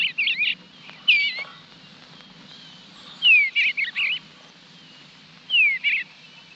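A male bluebird's soft, cheerful warbling song, sung from the roof of a birdhouse where its mate is building the nest, comes in several short, high, gurgling phrases separated by pauses, heard fairly clearly over a faint, steady low background hum.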